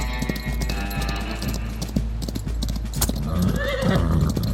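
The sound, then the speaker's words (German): A horse whinnies with rising, wavering cries while hooves clop in a steady rhythm, with the neigh growing louder toward the end. “Pferdchen.”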